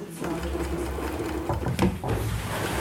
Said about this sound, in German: In der Reparaturabteilung des Markenartiklers surren an diesem Morgen die Nähmaschinen. Vereinzelt wird auch gefeilt oder genietet.